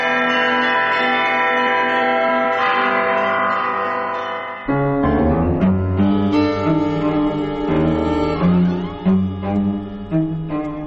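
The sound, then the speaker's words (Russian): Church bells at the Kolomenskoye museum ring out in a rich, layered peal played by a bell ringer: a sustained humming tone at first, then a flurry of rapid strikes on several bells of different pitches, loud, with no voices. “Александра Жихарева, звонаря музея «Коломенское», колокольного мастера, изобретателя, записала Тамара Ленкова.”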